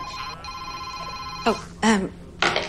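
A telephone rings with a steady, bright electronic tone that briefly breaks and resumes, then short bursts of voices cut in over it toward the end.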